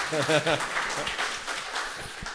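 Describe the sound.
An audience breaks into steady applause, a dense wash of many hands clapping with a few sharper claps standing out, while a voice cheers briefly at the start.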